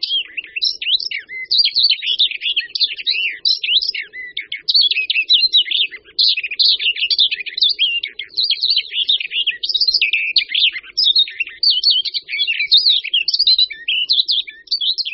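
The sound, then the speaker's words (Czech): A barred warbler sings continuously, a fast, scratchy warble of chattering notes with few pauses, fairly loud, with no voices present. “Na svá hnízdiště přilétá pěnice vlašská až v květnu a zpívat ji můžeme slyšet na nejvýš po dobu jednoho měsíce od příletu.”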